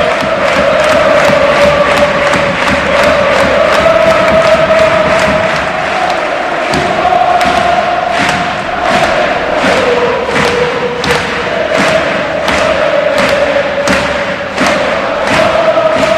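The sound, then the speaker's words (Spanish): A huge crowd of Osasuna fans at El Sadar football stadium roars and chants continuously, applauding their Copa del Rey finalist squad, with loud unison claps or thumps landing in a steady, regular rhythm about once a second throughout. “Gran parte de la grada todavía en el estadio aplaudiendo a esta plantilla que les ha hecho soñar durante meses con esta final de la Copa.”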